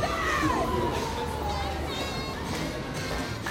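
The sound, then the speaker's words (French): Children's voices ring out as they play in the Chismigiou park in Bucharest, among flower beds, with high shouts and calls layered over a steady murmur of a crowd. “On a aussi le parc de Chismigiou, où l'on a là des parterres de fleurs, des enfants qui jouent, des cris, enfin toute une atmosphère bon enfant qui est assez commune en fait à toute ville bien organisée.”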